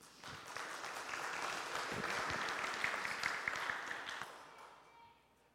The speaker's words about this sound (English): You know, I have to tell you that I don't often get a round of applause before. Maybe you'll clap at the end, too.